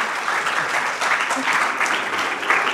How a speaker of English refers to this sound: Thank you so much for sharing. Yeah, why don't you give it a round of applause? That's amazing.